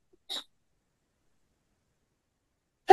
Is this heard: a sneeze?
yes